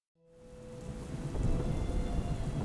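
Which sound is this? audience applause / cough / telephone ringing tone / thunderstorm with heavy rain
thunderstorm with heavy rain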